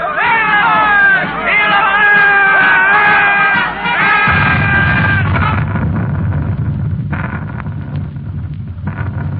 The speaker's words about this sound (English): Listen, soldiers. They're marching this way. The crowd cheering. For what?